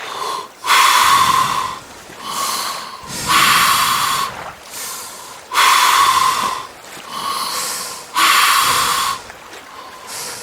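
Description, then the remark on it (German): Deep, slow breaths drawn in and pushed out through the mouth via a snorkel, with a mask on, loud, with a hollow, slightly whistling rasp; about four full in-and-out cycles in a steady rhythm, no talking. “Und jetzt atmen wir tief und ruhig durch den Mund ein und aus.”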